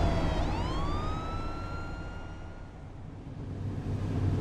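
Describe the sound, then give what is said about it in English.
A fire engine siren, coming from behind a van, winds up from a low pitch to a steady high wail and holds it, loud, over a constant low rumble of traffic or engine noise. “There's a fire engine behind us.”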